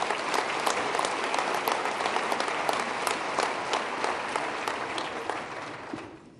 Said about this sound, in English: Let's give yourselves a round of applause for really a great piece of work.